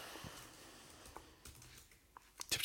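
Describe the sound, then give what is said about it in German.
Quiet keyboard typing, an irregular patter of soft key clicks that grows a little louder and busier in the final moments, with no voices. “Die Ratten rennen noch schnell über die Tastatur zum nächsten Burger.”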